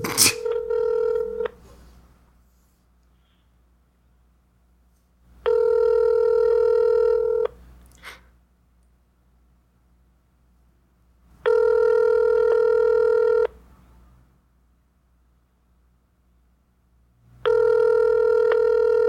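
A phone call about a casual encounter goes out over a speakerphone: a brief dialing burst, then a steady ringback tone that repeats three times in even two-second rings separated by longer gaps, with no talking.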